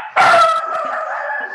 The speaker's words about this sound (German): Da war der Hund. Sie stimmt mir vollumfassend zu.